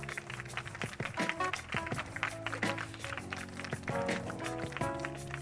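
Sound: audience applause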